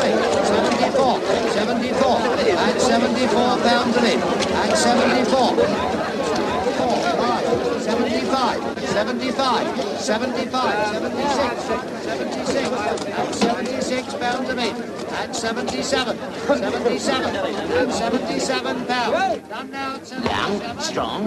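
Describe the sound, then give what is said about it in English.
A stable hand runs a horse through a busy crowd at Southall Market, dense overlapping chatter filling the scene at a steady, loud level from start to finish, with no voice standing out clearly. “A stable hand runs a horse through a crowd at the market.”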